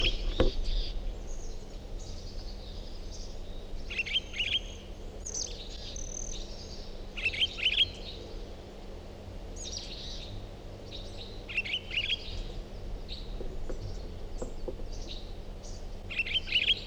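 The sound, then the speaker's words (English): Bird song with repeated bursts of high, bright chirps and trills recurring every few seconds over a steady low background hum, with no voices present. “Is that recording same bird?”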